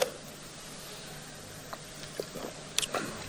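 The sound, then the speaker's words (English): Someone takes a sip of water: a few soft, wet mouth clicks and a faint swallow scattered over a couple of seconds, quiet against a low background hiss, with no talking. “I'm going to have another drink of water.”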